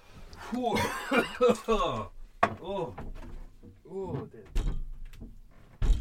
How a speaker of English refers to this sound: Door open.